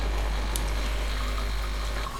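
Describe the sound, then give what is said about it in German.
An espresso machine, the winner of a coffee machine test, pumps water for a cappuccino in a steady, unbroken drone, a low mechanical hum under a watery hiss, fairly loud, with no voices. “Wir haben Kaffeemaschinen getestet. Die hier war die Siegerin.”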